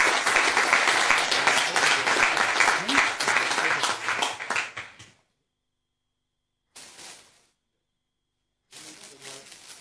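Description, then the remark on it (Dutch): A crowd claps loudly for a people's representative (volksvertegenwoordiger) for about five seconds in a dense, crackling burst that quickly dies away, followed by two shorter, quieter flurries of clapping after brief silences. “Maar ik zou nu graag een applaus willen voor deze volksvertegenwoordiger”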